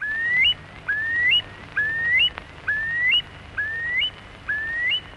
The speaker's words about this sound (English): The great novelty at that time was this remarkable man making recordings of birdsong in the wild. Nowadays, it's something we take for granted